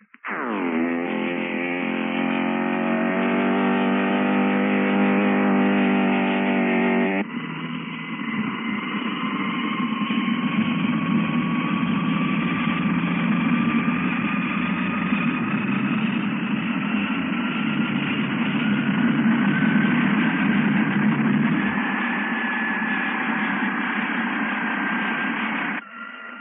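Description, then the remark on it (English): The twin jet engines of a Messerschmitt 262, a German jet fighter, starting up as ground crews prepare them: a loud, buzzing harmonic drone gives way to a roaring rush, with high-pitched turbine whines slowly climbing in pitch throughout. No voices. “And now, here is the weird, screaming sound of those two jet motors as the ground crews prepare to start them up.”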